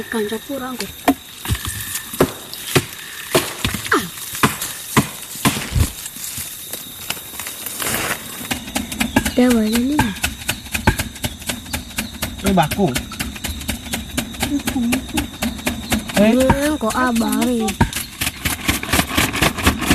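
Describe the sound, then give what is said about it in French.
A leaf is fanned hard against a small fire to stoke it and its smoke as children smoke out a porcupine's burrow during a hunt, making rapid, steady flapping swishes that run the whole time, while voices talk partway through. “Là, je triche parce que je l'ai vu, donc je sais que ce bruit qu'on entend, c'est une feuille justement qui attise un petit peu le feu et donc la fumée.”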